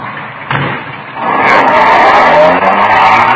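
A sharp thump like a car door shutting, then a car engine roars up loudly, revving as the vehicle pulls away and keeps accelerating.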